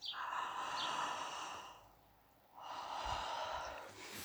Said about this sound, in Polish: Teraz troszkę szerzej ziewamy. Też dwa razy.